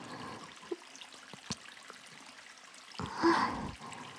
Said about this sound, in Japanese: ゴシゴシ鳴ってます。意外な音しますよね。シャワーオイルってこういう意外な音が鳴るからいいんです。